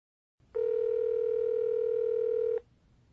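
A steady, unbroken telephone dial tone hums clearly for about two seconds before a phone call, then cuts off abruptly, with only faint background noise before and after.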